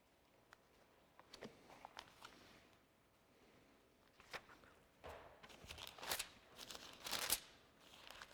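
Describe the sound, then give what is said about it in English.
Thin Bible pages rustle and flip in a series of soft, crinkly swishes as someone turns to the Book of Luke, chapter 24, growing busier toward the end, fairly quiet with no voices. “You know, it's hard turning pages in a Bible with a bum thumb.”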